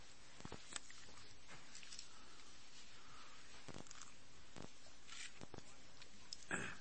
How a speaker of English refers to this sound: I just took a couple swigs of water that Tim brought up here